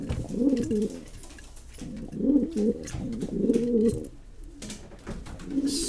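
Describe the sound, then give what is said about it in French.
Racing pigeons coo repeatedly in low, throaty rolling phrases, several birds overlapping in bursts with brief pauses between, no talking. “Je crois que le pigeon, il doit aimer son propriétaire.”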